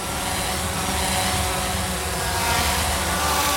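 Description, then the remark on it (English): A dense, continuous whirring buzz of delivery drone propellers fills the air, steady and fairly loud throughout, like several small rotors hovering overhead at once. No voices are heard. “Imagine a crowded city with hundreds of delivery drones buzzing by at all times.”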